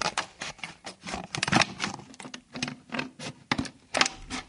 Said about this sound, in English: Okay, I'm just poking the scissors through. And just cutting through.